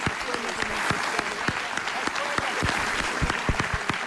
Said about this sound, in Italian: È il giorno degli applausi, questo, giustamente